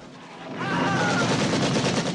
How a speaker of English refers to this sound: the chopper's gunner open fire.